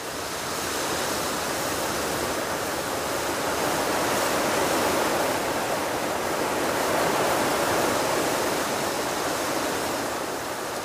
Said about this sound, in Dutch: Opeens begint het te waaien.